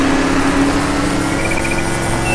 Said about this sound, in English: It's a lawnmower. Okay, bro, can you quit mowing the lawn while I ride my bike?